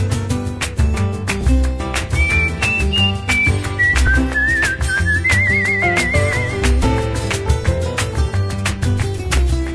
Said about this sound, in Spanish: Y en la escalera me siento a silbar mi melodía.